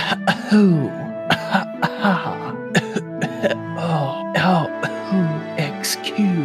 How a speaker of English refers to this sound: We have a ship tour that we shall conduct later, and at a certain point, I may have a coughing fit, like so.